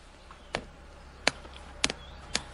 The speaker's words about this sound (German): Jetzt brennt da hinten noch unser Feuer. Ich würde mal kurz ein bisschen euch noch mitnehmen zum Feuer, dass ihr das vielleicht jetzt noch ein bisschen besser hört als eben. Jetzt ist jetzt hier die Bushbox. Da brennt unser Feuer. Hören wir mal rein.